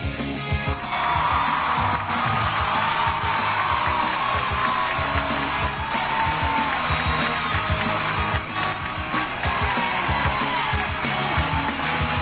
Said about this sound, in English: Yes, yes. Keep it coming. I think we put in a minute and a half of applause here at the beginning. Make us feel good.